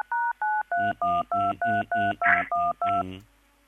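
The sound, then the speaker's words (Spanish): A quick run of about ten telephone keypad tones, each a short steady two-pitch beep in an even rhythm, clear, with faint muffled background noise underneath. “¿Puedo pasar otro teléfono, si no, por las dudas?”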